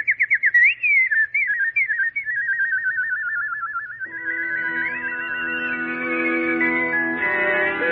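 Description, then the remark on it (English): Warbling, trilling nightingale song in a dramatization of The Chinese Nightingale, likely whistled in imitation, rising and falling in quick runs; after a few seconds soft sustained music swells in beneath it. “Sing, little nightingale. Sing a song of love and thanksgiving.”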